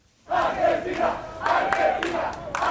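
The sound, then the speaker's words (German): A crowd of football fans celebrating on the seafront promenade in Doha, Qatar, during the Football World Cup cheers and chants together, loud massed voices rising and falling in rhythmic waves with sharp shouted bursts, continuous for the whole stretch. “Feiernde Fans an der Strandpromenade, gesperrte Straßen, überfüllte U-Bahn-Wagen.”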